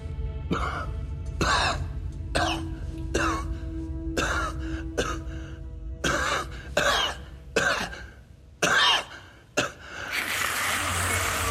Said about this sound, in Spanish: se sienta en el catre entre espasmos de tos.